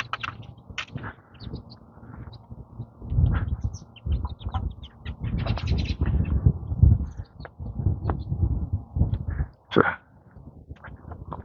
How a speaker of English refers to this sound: Flock of sparrows whipping across the street. There were a couple robins mixed in.